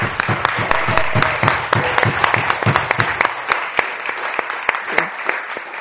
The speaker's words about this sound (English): Can we give all our wonderful children that have participated at quite short notice, some of them, a big round of applause?